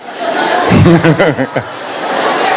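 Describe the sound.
An audience applauds a young child in a steady, dense wash of clapping throughout, with a brief voice rising over it partway through.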